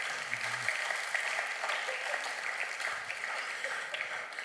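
A crowd applauds an audience member steadily, a dense wash of many hands clapping at an even level for several seconds, with a faint voice briefly audible underneath near the start.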